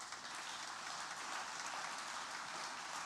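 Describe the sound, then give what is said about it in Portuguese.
A crowd applauds God during a sermon, a dense and even wash of many hands clapping at once that holds at a constant level for the full few seconds, with no voices. “Dá um aplauso a ele por isso.”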